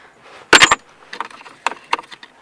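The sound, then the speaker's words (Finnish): A coin is flipped and lands with a quick metallic clatter and a brief ring, followed by a few lighter taps as it settles. “Muuta sen parempaa kuin heittää kolikkoa.”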